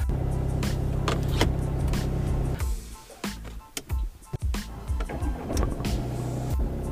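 inside a car

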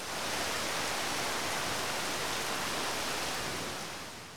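heavy rain

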